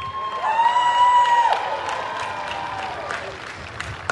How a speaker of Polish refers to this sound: Gromkimi oklaskami przywitajmy grupę 20 z Grodziska Wielkopolskiego.